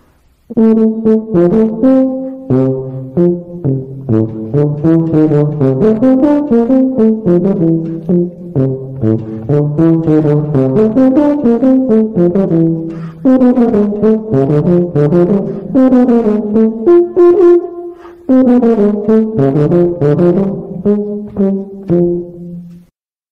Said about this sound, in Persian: حالا صدای توبا رو به صورت سولو با هم میشنویم.